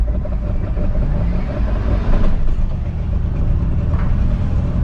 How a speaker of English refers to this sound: I put it into gear and then I step on the gas and it just revs, and then suddenly it jolts into gear.